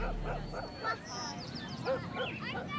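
neighbor's dog barking

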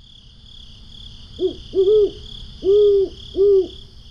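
owl hooting

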